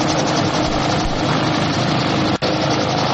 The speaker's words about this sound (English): They were grabbing every helicopter and plane and flying out to the USS Hornet. A light plane, look at this, a light plane landing on an aircraft carrier.